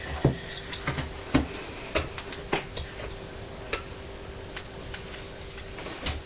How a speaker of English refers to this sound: What's that funny noise? I think it's the sound of your windmills outside because it's quite breezy. And they're spinning around really quickly, aren't they? They're going very fast, and I think it's the rattling noise.